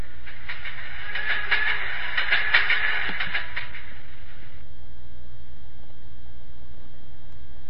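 A train rolls along the rails with a rhythmic clickety-clack over a low rumble, loudest for a few seconds before fading to a quieter steady hum. No one speaks.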